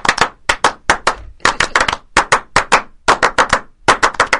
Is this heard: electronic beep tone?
no